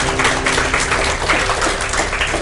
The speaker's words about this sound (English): Hey, would you give a round of applause for those people today? God bless you.